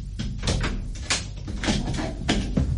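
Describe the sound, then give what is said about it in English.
A door is unlocked and opened: a few scraping, clattering bursts and a creaking swing over a low rumble, fairly loud, with no voices. “And as soon as I'm gone, unlock and open the door.”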